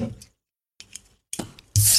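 A few small metallic clicks and scrapes, then a sudden loud, sustained fizzing hiss as a mini can of Schweppes tonic water is cracked open, with no talking.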